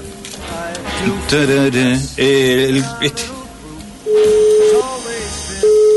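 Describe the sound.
A voice speaks briefly, then a steady telephone dial tone sounds fairly loudly, breaking off and resuming as if a number is being dialed.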